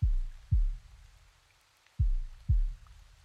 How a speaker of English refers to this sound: Keep resting your head on my chest. Can you hear my heartbeat? Listen.